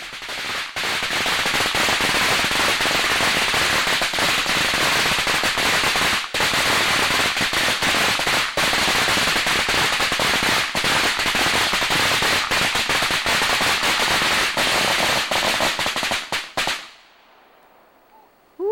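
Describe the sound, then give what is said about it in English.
A long, dense string of firecrackers pops and crackles continuously for about seventeen seconds, loud and rapid, before abruptly stopping into near silence. “Now, this clip is rather long, so have a little patience getting through it because we just want to show you how many fireworks there were and how long they exploded for.”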